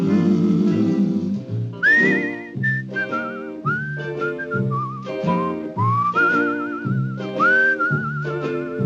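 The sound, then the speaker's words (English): A whistled melody with wavering vibrato rides clearly over a steady instrumental backing, gliding between sustained notes in a relaxed, flowing tune. No one speaks. “It's a whistling tune for walking in the night.”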